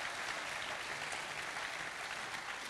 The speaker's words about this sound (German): Давайте поаплодируем Духу Святому. Lass uns dem Heiligen Geist einen Applaus geben.